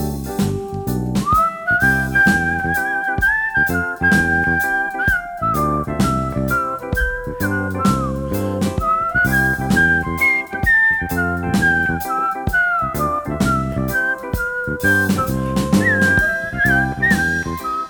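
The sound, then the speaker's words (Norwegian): A person whistles a flowing melody with sustained, sliding notes, carried over a steady instrumental accompaniment that plays throughout at a moderate, even loudness. “Man kunne kanskje plystre en preken nå om våren i påsken.”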